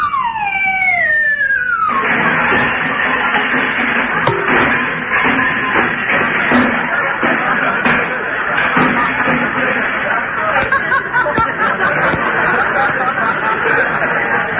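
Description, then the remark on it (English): Footsteps of Santa Claus walking around on a roof before coming down the chimney: irregular shuffling thumps and scrapes over a steady loud hiss, after a brief opening of falling, whistle-like tones. “Yeah, and I can hear him walking around on the roof.”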